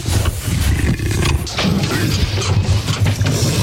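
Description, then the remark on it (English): A leopard that has escaped from a zoo growls and snarls in a loud, rough, low-pitched rumble that rolls on without pause for several seconds, swelling and easing in ragged pulses. No one speaks. “We're live from the zoo where a leopard has escaped.”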